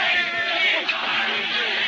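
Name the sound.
crowd yelling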